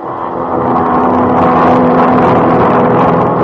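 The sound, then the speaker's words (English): An airplane in flight in 1949, flying southeast from Vienna across the Mediterranean Sea and bumping in the turbulence of rising desert air, carrying Theodor Herzl's body: a steady, loud propeller-engine drone hums without a break, a low throbbing roar with a faint sustained tone and no voices. “Southeast, out of Vienna, across the Mediterranean Sea, across the land, bumping in the turbulence of the rising desert air, an airplane, 1949.”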